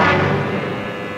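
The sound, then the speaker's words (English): An old taxi's engine runs with a steady, loud, rattling rumble, unbroken for about a second, with no voices. “I said, where did you get this pile of junk? Out of a car museum?”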